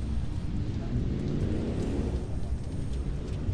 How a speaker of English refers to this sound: But you can hear the hissing off to the left. It's a train.